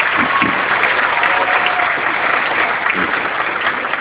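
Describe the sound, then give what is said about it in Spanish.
A crowd claps steadily, a dense, even wash of applause that stays loud and continuous for a few seconds with no voices breaking through, applauding people from the Ministry of Labour and Ministry of Social Development who contribute to the Nueva Oportunidad project. “También un fuerte aplauso para ellos.”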